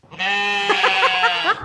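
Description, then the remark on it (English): A child's voice imitates a sheep with one long, drawn-out bleat, fairly loud, wavering in the middle before trailing off, with no other talk. “What noise does a sheep make?”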